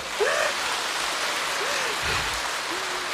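A crowd claps steadily throughout, a dense, even wash of applause with a few faint voices rising briefly over it.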